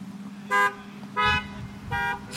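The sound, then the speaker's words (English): Three loud car horn honks, each short blast separated by a pause, over a steady low rumble of road traffic, from drivers passing people standing beside the road with a cardboard sign bearing an American flag and reading "honk if you love America". “And they on their own went and stood beside the road. And said, honk if you love America.”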